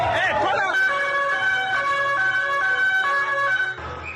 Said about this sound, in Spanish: Ahí los gritos y también, a su paso, muchas vidas sesgadas y el sonido de las ambulancias.